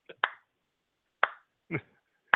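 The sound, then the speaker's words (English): A slow, uneven clap: a quick pair of sharp hand claps, then three more single claps spaced about half a second to a second apart, with no voices. “Thank you for the slow clap. Yeah, I heard that.”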